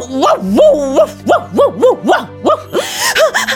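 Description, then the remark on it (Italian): A voice imitates dogs barking: a quick run of about eight or nine loud yelping barks in a steady rhythm, with no other sounds around them. “Però ad un tratto, sembrava festa, ma ad un tratto udirono dei latrati.”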